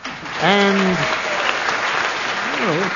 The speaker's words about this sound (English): A round of applause.